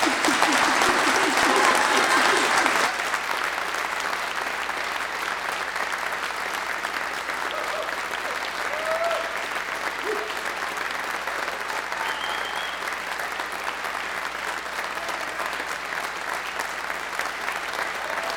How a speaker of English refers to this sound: You may now offer your applause to all of these graduates.